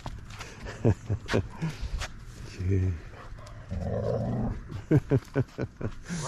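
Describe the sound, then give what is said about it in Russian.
A golden retriever growls in low, rumbling bursts, a short one and then a longer, rougher one, with people talking around it on Halloween. “Такой хороший такой golden retriever, друзья.”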